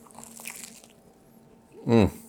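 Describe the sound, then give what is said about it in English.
Someone breaks open and bites into a crunchy fried Johnny cake, a soft crackle of chewing, followed by a brief, louder voiced murmur near the end. “Wow, great crunch. Nice on the inside. Crunchy on the outside.”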